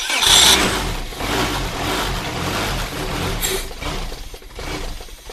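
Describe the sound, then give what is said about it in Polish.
A prototype engine cranks and catches with a loud burst, then keeps running with a steady, rough mechanical roar, its pitch wavering slightly. No one speaks. “Do jakich pojazdów może być wykorzystany ten silnik?”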